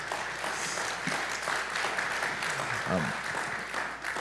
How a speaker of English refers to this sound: Can we just give an applaud to these two for...